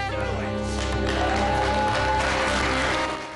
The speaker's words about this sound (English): Frost glances through a narrow window as Brody applauds with his group.